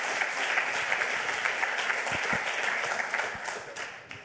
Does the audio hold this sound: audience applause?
yes